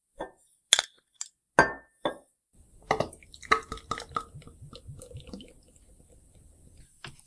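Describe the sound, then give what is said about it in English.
Sharp glassy clinks and knocks ring out at the start, followed by a fizzing, gurgling pour with bubbly patter, as glass bottles of Molson Canadian beer are handled and opened, with no talking. “Well, let's open it up and we'll head on down.”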